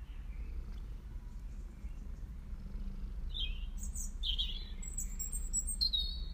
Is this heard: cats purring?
yes